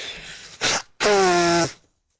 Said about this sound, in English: Oh, I'm getting some Kleenex. I have to blow my nose after listening to that sob story.